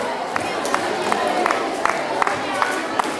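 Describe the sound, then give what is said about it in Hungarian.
A crowd claps and cheers steadily for the X-Team, a competing team from the Móra Ferenc school, a dense wash of applause with sharper claps standing out at regular intervals and a murmur of voices underneath, sustained at moderate loudness. “Na, ez az nagyszerű, utolsókból lesznek a legnagyobb tapsot kapok. Tapsoljuk meg az X-Teamet!”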